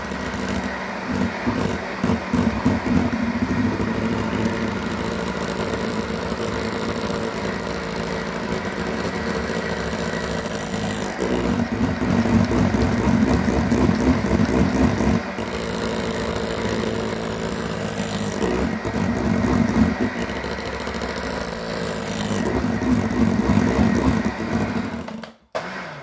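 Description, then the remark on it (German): An electric hand mixer whirs steadily for about 25 seconds while mixing a creamy pancake batter of bananas and eggs, a buzzing motor drone that rises and falls slightly in pitch as it works, with no talking, then cuts off abruptly at the end. “Wenn du so einen Handmixer hast wie ich, dann gerne einfach unten den Topf ein bisschen mitdrehen.”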